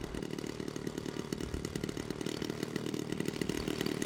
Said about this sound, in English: It's where the pilots make last-minute checks and get the engines warmed up.